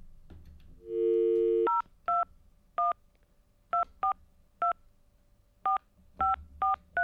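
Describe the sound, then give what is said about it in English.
A telephone keypad is dialed live on air in a BFM radio studio to call a caller back. A brief low steady tone is followed by a string of about ten short two-pitch beeps at uneven intervals, clear, with no one talking. “I'll call her back. Stand by. Bear with me. I'm going to do this live on air as we speak.”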